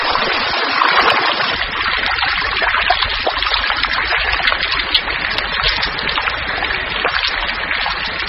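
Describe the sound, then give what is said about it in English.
Steady rain hisses over a continuous trickle of running water, a dense, even wash of sound with scattered droplet patters and no voices. The rain washes the glue from the leaf nests of leaf-folding frogs, and the water runs into growing puddles below. “The rain washes away the glue, and the tadpoles slip out of the leaves into the growing puddles below.”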